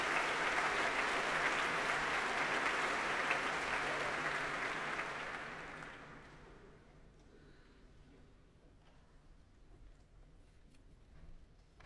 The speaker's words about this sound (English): That applause is for Yuri Tuchinsky, leader of the BBC Philharmonic, taking his place on the platform.